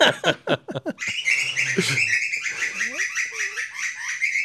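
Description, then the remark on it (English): A bird inside a shed chirps and twitters rapidly and continuously, its busy high calls filling the whole stretch, with a brief voice at the very start. “Tell me, missus, there's another bird in the shed.”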